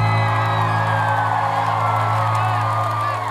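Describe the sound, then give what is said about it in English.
A concert crowd cheers and whoops steadily for a few seconds, with scattered clapping, over a loud sustained droning tone that holds throughout. “Give yourselves a round of applause real quick.”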